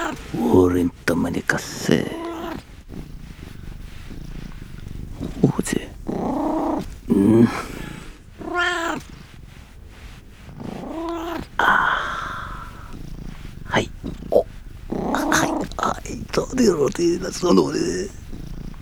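A cat growls and yowls, its drawn-out, wavering cries rising and falling in repeated bursts with low rumbling growls between them, continuing throughout.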